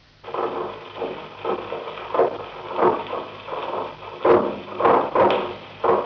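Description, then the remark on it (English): A sped-up seismic recording of an earthquake swarm near Yuma, averaging one earthquake every minute: a rapid, uneven string of about a dozen muffled thumps and cracks over a steady rumbling hiss, with no voices. “To give you some idea of what earthquakes, micro and larger, sound like when speeded up, here are recordings made of an earthquake swarm near Yuma a few years ago.”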